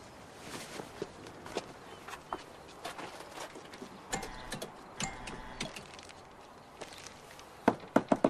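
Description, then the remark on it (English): A man carrying a bunch of pink roses walks up to a house: steady footsteps on a hard surface at a moderate walking pace, quiet, ending with a quick cluster of sharper, louder impacts. “He picks up a bunch of pink roses and walks up to the house.”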